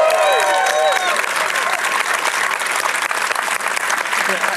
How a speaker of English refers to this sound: Otherwise, just tell you what, just keep applauding. Just keep applauding. I'll see what's happening. Applaud, damn you!